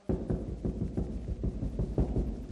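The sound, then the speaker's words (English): Repeated heavy knocks on a door, a steady series of thuds spaced under half a second apart, loud, with a low rumbling hum underneath. “banging at the door.”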